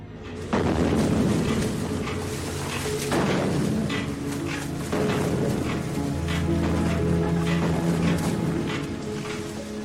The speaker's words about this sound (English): That's the worst part. The attack from when the depth charges go off until the attack is over. If you're lucky, you don't get hit and you come back home.